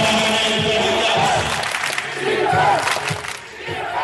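A large stadium crowd of Örebro supporters roars and chants steadily at an American football game between Örebro University and Handelshögskolan, a dense wall of voices with shouted calls rising and falling over several seconds.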